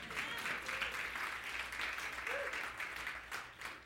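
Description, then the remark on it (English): A room full of people claps steadily for several seconds, a dense, continuous patter of many hands with no pauses, fairly loud. “I got three claps. Can we do that again?”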